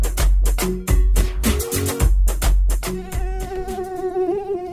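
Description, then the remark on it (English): A series of heavy, booming thumps gives way to a thin, whining mosquito buzz that wavers up and down in pitch, continuing steadily to the end. “The Zika virus is a disease caused by the bite of an infected Aedes aegypti mosquito.”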